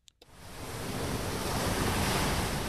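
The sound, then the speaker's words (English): Turquoise ocean waves break and wash onto a white-sand beach on Sabang Island, Indonesia, in a steady, roaring surge that swells quickly after a couple of brief clicks and then holds loud, with no voices. “With turquoise waves, white sands, and a row of pretty bungalows overlooking the beach, Freddy Rousseau's small resort on Sabang is often fully booked.”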